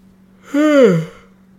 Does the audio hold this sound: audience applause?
no